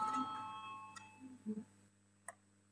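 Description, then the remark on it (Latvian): A faint electronic call bell chimes during a Saeima parliament sitting, calling a vote on a budget and finance committee proposal; its steady ringing tone fades out after about a second, followed by a few soft, scattered clicks and taps. “Lūdzu zvanu, balsosim par 19. budžeta un finanšu nodokļu komisijas priekšlikumu.”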